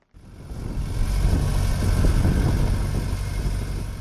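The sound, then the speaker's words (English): A tractor tilling land ahead of the rainy season at a farm about 40 kilometers north of Harare rumbles steadily, a loud low-pitched drone with a rough, churning texture that holds constant throughout, with no voices. “At Mugutu Farm, about 40 kilometers north of Harare, a tractor tills land ahead of the rainy season, expected anytime now.”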